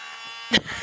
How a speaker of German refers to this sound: Das ist ein kleiner Ventilator.